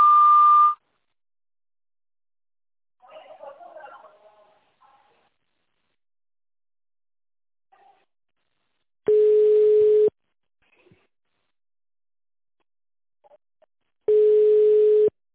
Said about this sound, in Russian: Здравствуйте, вы позвонили в санаторий «Виктория». После длинного сигнала переведите ваш аппарат в режим тонального набора и наберите внутренний пятизначный номер.